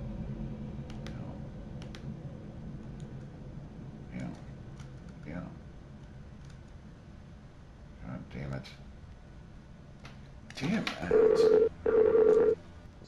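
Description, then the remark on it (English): A Skype call app's reconnecting tone: two short, steady electronic beeps close together near the end, loud and clear after a stretch of quiet background noise with faint clicks and murmurs. “Well, the new Skype is a little better because at least it automatically reconnects.”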